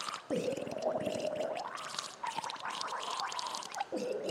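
Someone gargles a melody, a wet bubbling rattle carrying sustained, shifting pitched notes that rise and fall like a tune, steady and fairly loud throughout.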